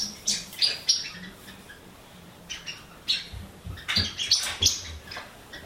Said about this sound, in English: There's birds in this one.